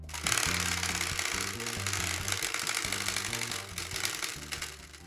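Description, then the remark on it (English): A prize wheel spins with a fast, steady rattle of clicks that carries on for about five seconds, landing on "shine light", over a low, stepping melody of music playing underneath. “The spinny wheel has landed on shine light.”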